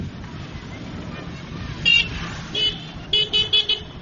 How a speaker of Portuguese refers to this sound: Essa buzina é para quê? Essa buzina é para avisar para quem vem. Por exemplo, aqui na rotunda.